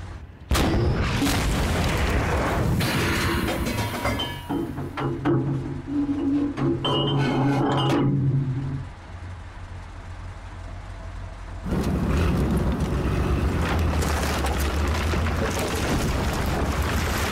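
A tank cannon fires an armor-piercing shell that slams into the wall of a barn at turret height with a heavy roaring boom, followed by a droning engine hum and a second loud rumbling burst. No one speaks.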